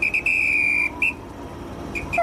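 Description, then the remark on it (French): A shrill, high-pitched train whistle blows as the train departs, in a series of blasts: two quick chirps, one long sustained note, a short burst, then two fainter toots at the end, with no talking. “Et puis voilà, le train démarre.”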